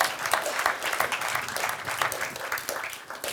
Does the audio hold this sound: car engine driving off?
no